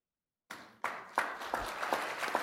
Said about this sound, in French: Je vous demande effectivement de les applaudir.